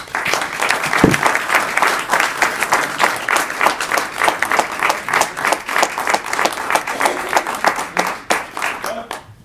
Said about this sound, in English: One round of applause for Mark.